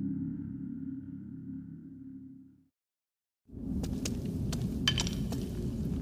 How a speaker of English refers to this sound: Try not to kick the bones. Sorry, I cannot see where I'm going well enough to avoid them.